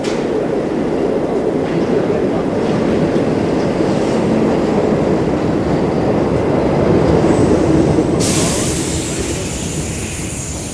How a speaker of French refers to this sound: Un métro est arrivé.